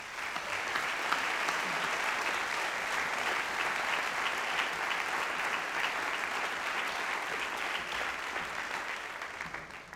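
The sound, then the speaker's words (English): A crowd applauds steadily for the full ten seconds, a dense, even wash of many hands clapping at a consistent moderately loud level with no speech over it, in a round of applause for people from the university who made the day possible. “Would you join me in a round of applause for those individuals?”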